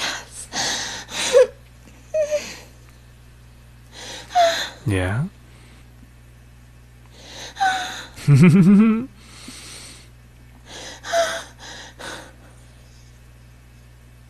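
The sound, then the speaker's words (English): Heavy, labored breathing in repeated harsh gasps, with a couple of short rising whimpering vocal sounds and a few brief spoken words in between. “I can hear your breathing getting labored.”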